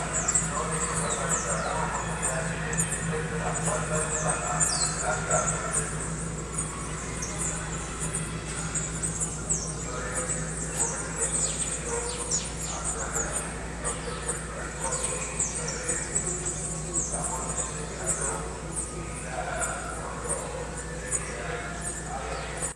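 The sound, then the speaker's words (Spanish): A steady chorus of birds chirping and tweeting throughout, used as a background effect to sound like being outdoors, busy overlapping calls over a low background hum. “Son los mismos pájaros que usás para que parezca que estás al aire libre y unos sonidos más, pero tremendo.”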